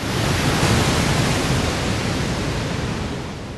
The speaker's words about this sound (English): Then Yellowstone Falls. Below the lake, the river drops through a series of waterfalls down into Yellowstone Canyon.